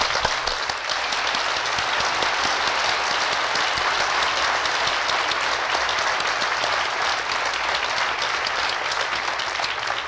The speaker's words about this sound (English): Please applaud our fine graduates.